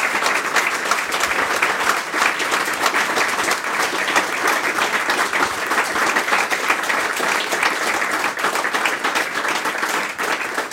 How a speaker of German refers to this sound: Das ist Ihr Applaus. Dankeschön. Danke.